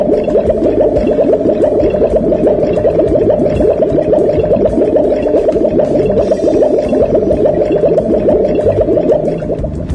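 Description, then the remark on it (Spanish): A steady, loud rushing and gurgling of water through the water pipes of a house in Bursaco, continuous for the whole stretch with a dense bubbling texture and no voices. “Quiero mostrarles el ruido que hacen los caños de agua en mi casa.”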